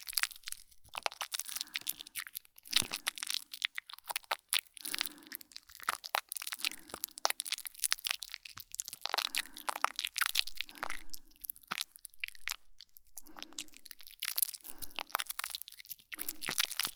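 Dense, crackly squishing of shampoo being worked into a foamy lather, with soft low squelches repeating about once a second under a steady fizz of tiny bubbles. No one speaks.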